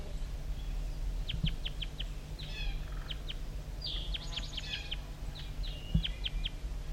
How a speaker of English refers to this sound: Stop. Sorry, recording the wild bird still around here calling over near the bottom of the hollow.